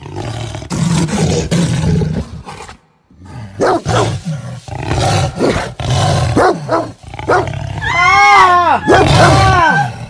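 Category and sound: animal, jaguar roaring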